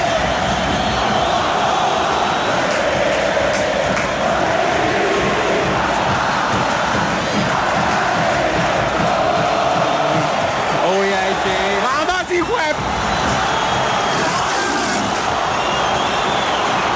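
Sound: football stadium crowd roaring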